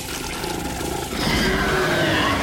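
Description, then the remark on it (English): A deep, rumbling creature growl echoing in a cave holds steadily, then swells about halfway through into a louder, harsher snarl that rasps on without a break. No voices. “A deep growl echoed throughout the cave as the eyes inched closer.”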